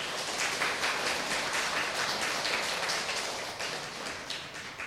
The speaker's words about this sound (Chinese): 我们下午的这个研讨会啊，就现在开始。那我们以热烈的掌声欢迎信光法师。